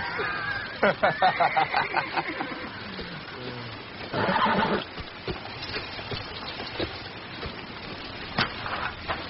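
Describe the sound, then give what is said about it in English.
A spooked horse whinnies in a quick, shuddering series of high calls, followed by a breathy snort, with a few scattered hoof and tack sounds in a quiet outdoor setting. “The horses seem a little spooked to you.”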